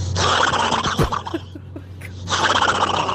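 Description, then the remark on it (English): A caller from Phibsborough imitates a horse neigh with a loud, harsh, whinnying voice, wavering and breaking up in the middle before swelling back to full strength at the end. “I can't do a seagull, but I can definitely do a horse.”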